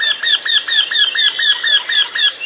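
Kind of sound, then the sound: bird, eurasian wryneck call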